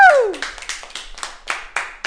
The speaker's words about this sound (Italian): Spero che l'applauso si sia sentito anche da casa.